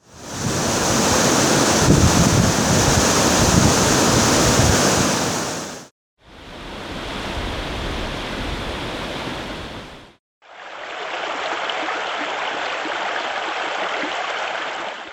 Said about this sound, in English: You heard the James River at Richmond, the James at Lynchburg, and the Montgomery County headwaters of Craig Creek, a James River tributary.